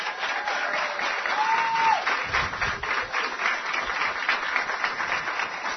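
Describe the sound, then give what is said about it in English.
An audience breaks into sustained applause at the UNC Wellness Center, a dense wash of many hands clapping at a steady, fairly loud level for several seconds with no one speaking over it. “So I want to say first, congratulations, and give yourselves a big round of applause, all of you.”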